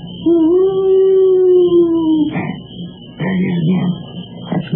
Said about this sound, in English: I know what that was. It was an owl.